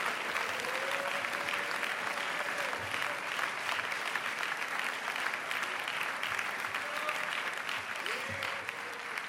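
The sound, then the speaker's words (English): An audience claps their hands in praise of Jesus at the end of a sermon, in sustained, dense applause lasting the whole clip, steady and loud, with faint voices and a few brief tonal calls rising through the clapping. “Let's clap our hands and praise him right now.”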